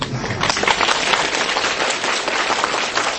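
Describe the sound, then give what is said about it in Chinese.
A large audience bursts into sustained applause, dense overlapping claps filling the space at a steady, loud level throughout, with no voices standing out. “一个鼓掌的人，一个能够带微笑的人，他就是一个善良的人”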